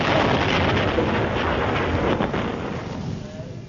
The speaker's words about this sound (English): the explosion blew Rommel's small black box up in the air